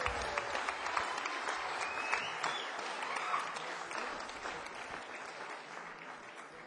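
A crowd applauds the band's bass player steadily, a dense wash of many hands clapping at an even, fairly loud level that tapers slightly toward the end, with a few faint cheers mixed in.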